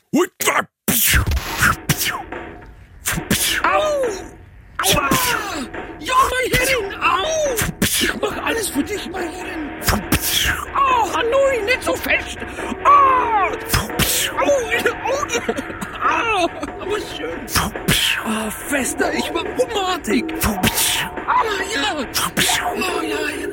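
A man's pained moans and strained cries rise and fall continuously, fairly loud, punctuated by sharp, sudden whip cracks at irregular intervals throughout, coming from an S&M studio called Slave Master in Günzburg; the man is a bank director.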